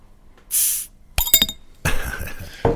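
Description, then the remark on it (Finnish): A drink is cracked open with a sharp half-second hiss, followed by a few quick metallic clinks and then a longer fizzing, rushing sound, all fairly loud, with no talking. “Jaha, olisiko se taas aika sitten sihauttaa?”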